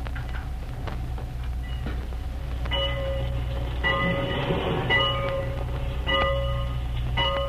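train waiting at station

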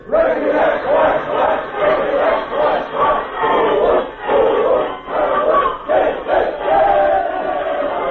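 team cheer

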